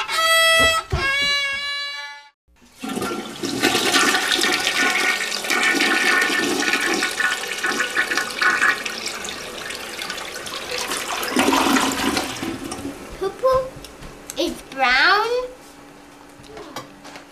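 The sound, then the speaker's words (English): A toilet flushes with a loud, rushing roar of water lasting about ten seconds before gurgling away, with brief voices just before and near the end. “Straight out of your bum and plops a big splash in the toilet.”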